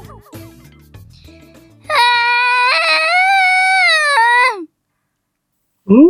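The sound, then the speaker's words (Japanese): After a short musical jingle, a lost child's loud, sustained wailing cry rings out in a park for a few seconds, then a fresh sob starts after a brief pause. It sounds voice-acted. “泣き声？”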